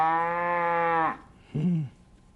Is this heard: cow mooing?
yes